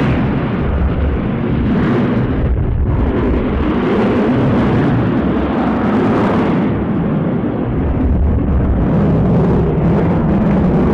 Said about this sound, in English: And did you wait for the plane to go by?